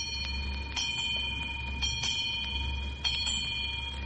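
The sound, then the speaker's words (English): A clock strikes four o'clock with evenly spaced, ringing bell tones and a lingering hum, set against a steady low mechanical rumble. No one speaks. “Aye, 4 o'clock.”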